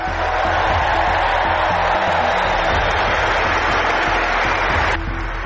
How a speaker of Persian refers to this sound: تماشاگران حاضر در سالن مسابقات بعد از اعلام نام اسطوره تنیس چندین دقیقه ایستاده تشویقش کردند.